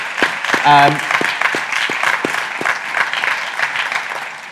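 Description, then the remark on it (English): An audience applauds the speakers steadily for several seconds after a talk, a dense patter of many hands clapping at an even loudness, with a brief voice or cheer rising above it early on. “And just give these guys a round of applause, because I thought that was fascinating.”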